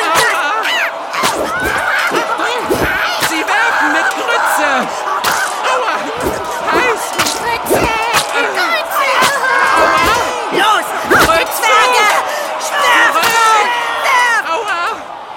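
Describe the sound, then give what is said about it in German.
Frisian women roar a continuous battle cry at dwarves, with repeated sharp slams and clattering impacts of pots of hot groats being hurled and striking, loud and chaotic throughout. “Auf die Zwerge mit Gebrüll! Töpfe, los! Nimm das!”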